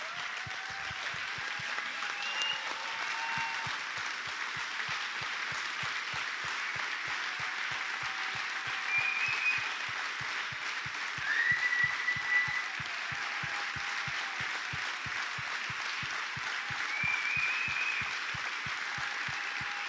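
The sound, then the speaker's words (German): Sustained applause from a standing audience, a dense steady wash of many hands clapping for the full twenty seconds, with faint whistles and brief cheers rising briefly above the clapping. “So, lasst uns gemeinsam aufstehen und mal einen fetten Applaus geben.”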